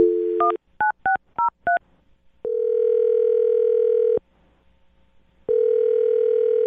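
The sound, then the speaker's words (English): A quick run of touch-tone keypad beeps as a phone number is dialed, then two long, steady ringing tones separated by a pause, clear with no voices. “Well, I'm going to dial her phone number right now and see if we can figure out why she isn't calling you back.”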